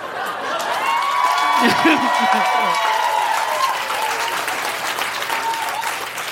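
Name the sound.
audience applause and clapping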